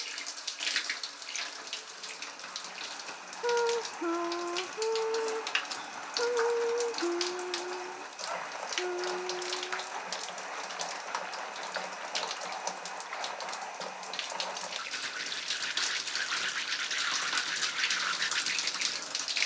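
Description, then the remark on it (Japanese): A shower sprays water over someone's head, rinsing their hair in a steady, continuous hiss, with the splashing swelling slightly toward the end and no one speaking. “頭をシャワーで流すので、目を閉じててくださいね。”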